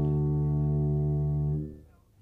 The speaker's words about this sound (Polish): Tego sygnału słuchaczom Polskiego Radia nie trzeba przedstawiać. Tu mówi Łódź. Twórcą sygnału jest inżynier Jarosław Bołdok, który po dłuższych studiach nad dźwiękami cytry dobrał na tym instrumencie cztery nisko brzmiące akordy w tonacji D-dur.